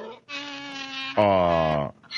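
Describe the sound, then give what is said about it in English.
A single donkey bray: a drawn-out, reedy high note gives way to a louder, rougher, lower honk, heard on its own with no talking over it. “That's the mascot of the Democrat Party, the donkey.”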